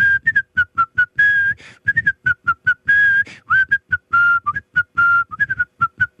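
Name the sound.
a person whistling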